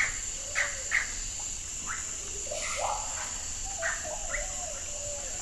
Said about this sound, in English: I've seen this place. I've heard it, too. The vast and mysterious forest, the old earth. The Amazon, life untamed. Birds, enormous insects, plants grown past anything I've seen before.